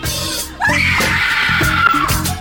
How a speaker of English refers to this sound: If you feel like screaming, I definitely think that you should.